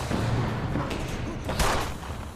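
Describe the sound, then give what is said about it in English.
A few sharp gunshots crack out in quick, uneven succession as a man shoots at a woman, over a dense, constant roar of background noise, the loudest burst landing just past the middle. “He shoots at her.”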